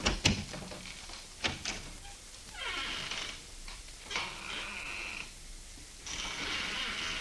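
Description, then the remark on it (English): An office door shuts with a couple of sharp knocks and latch clicks, then is slowly opened again, its hinges giving drawn-out creaking and scraping sounds, with no talking. “I'll step outside the office and close the door and then open it again.”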